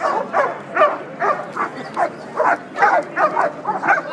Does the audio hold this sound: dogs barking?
yes